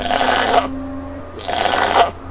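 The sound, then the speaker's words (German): A goat with a white underside, a very long beard and very large horns bleats twice, two harsh, wavering calls of under a second each with a short pause between, loud against a quiet background hum. “Hier kommen wir jetzt gleich zu den Ziegen.”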